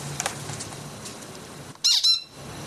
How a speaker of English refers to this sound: Bird singing beautifully.